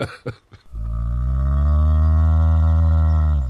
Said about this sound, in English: Oh dear, what's the matter? There's a cow on the track.